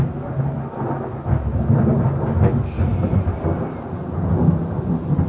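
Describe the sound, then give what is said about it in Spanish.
Low, rolling thunder rumbles steadily in the background throughout, with a deep sustained roar and a swell around the middle, accompanied by a soft hiss like rain. “Bonito ese trueno de fondo ahí, ¿eh?”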